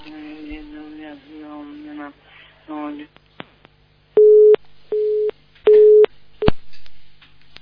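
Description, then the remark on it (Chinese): A voice talks briefly, then a telephone busy tone sounds after a dropped call: three loud, even beeps with short gaps, ending in a sharp click as the line cuts. “再换一个，刚刚电话都跳掉了。”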